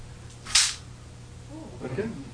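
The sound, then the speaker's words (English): Scissors are handled with one sharp, crisp click, like the blades snapping shut. A moment later a voice is heard briefly. “Here's a pair of scissors.”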